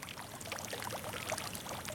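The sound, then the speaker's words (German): Water splashing and burbling steadily from a small fountain in the city of Lucerne, a soft continuous patter with little droplet plinks, gentle, with no voices. “Ein paar plätschern leislich vor sich hin.”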